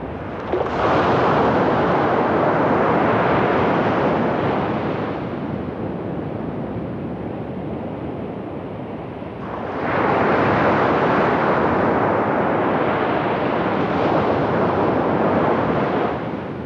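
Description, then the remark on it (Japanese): Steady roar of surf on a scenic coastline reached through a windbreak forest, with wind buffeting, swelling loudly at first, easing for a few seconds, then surging again as another wave rolls in. No voices. “風林を抜けると見えてくる海岸がとても風光明媚で、休みになると季節を問わずよくここに立ち寄った思い出深い場所の一つです。”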